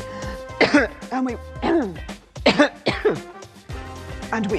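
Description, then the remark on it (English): Several harsh, raspy coughs and throat-clearing bursts come in quick irregular succession, loud, with a few strained vocal sounds between them. “Shows what good the Chancellor's cough suite is.”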